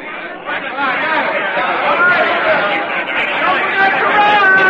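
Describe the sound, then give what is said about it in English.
Dense crowd bustle in New York's Pennsylvania Station on a spring Sunday morning: many overlapping voices blend into a steady, loud babble of chatter, with no single speaker standing out, sustained throughout. “It's Sunday morning, a spring morning, and in New York's Pennsylvania Station, a young soldier gazes in awe at the swirling, bumping crowds that mill about him.”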